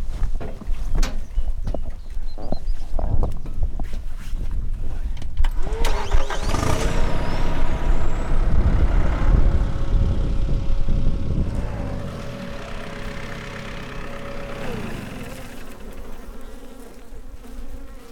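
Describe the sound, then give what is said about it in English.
A truck loaded with beehives stacked two or three high on pallets rumbles at idle, with a burst of air-brake hiss, steady droning and buzzing insects, before the motor winds down near the end. No one speaks. “And we load the beehives on pallets, and they either stack two or three high on my truck, and I put pallets on top so the lids don't blow over, and they just hit the road.”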